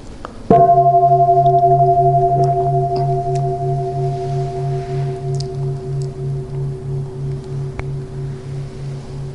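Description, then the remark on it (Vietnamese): A single deep temple bell strike rings out, then a long sustained hum with steady harmonic tones that slowly fades while pulsing gently in a slow wavering beat. “Nhiều khi mà có người thỉnh chuông mà mình cũng nói phiền não nữa, mình im vậy thôi, chứ cái anh chàng này hôm nay sẽ thỉnh chuông, không có được trong mà được ngân lắm.”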